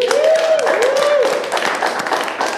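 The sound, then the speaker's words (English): A crowd at the Halo Live venue bursts into sustained, dense applause and clapping, with scattered whoops and cheers rising over the steady wash of hands throughout. “Give it up for Halo Live.”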